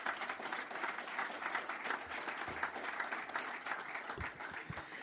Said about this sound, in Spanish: Así que, si les parece, firma ya de los documentos correspondientes, me parece que merece un aplauso celebrar esta instancia. Felicitaciones.